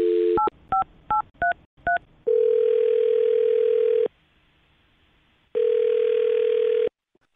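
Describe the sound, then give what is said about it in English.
A quick run of touch-tone beeps as a phone number is dialed for a call on the radio show Brooke and Jubal in the Morning, then two long steady ringing tones separated by a pause, clear with no talking. “All right, well, I'm going to dial his phone number right now and see if we can figure it out, okay?”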